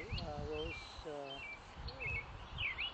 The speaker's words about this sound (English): I think it's a red-breasted grosbeak, maybe. Oh, you know what? You're probably right.